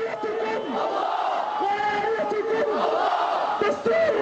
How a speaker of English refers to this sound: As usual, the crowd was large, young, and fervent. Hamas supporters say, unlike President Abbas's ruling Fatah movement, Hamas doesn't need to bus in crowds to populate its rallies.